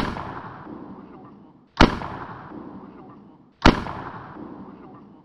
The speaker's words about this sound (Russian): Начала стрелять рождественская свеча, словно палящая пушка.